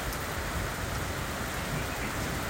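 Steady rain pours down in a dense, even hiss, with soft patter of drops on a surface throughout. No voices, just the continuous wash of rainfall.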